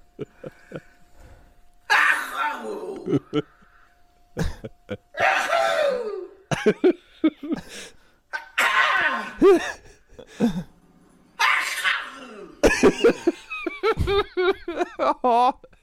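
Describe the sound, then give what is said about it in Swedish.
A string of loud, dramatic sneezes from an old woman, about a dozen bursts, each with a voiced, drawn-out gasp or cry, the last few coming in quick succession. “Karismatiska nysar i alla fall, det får man ju säga.”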